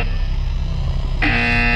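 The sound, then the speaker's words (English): A harsh, continuous electronic alarm buzz from a computer drones steadily and loudly, then shifts to a brighter, more piercing tone partway through. No one speaks. “Because I'm getting sick of this alarm noise.”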